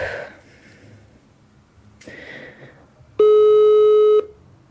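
A mobile phone call's ringing tone sounds once after a number is dialed, a loud, steady electronic tone lasting about a second, preceded by soft breathy rustling and quiet background noise. No one speaks.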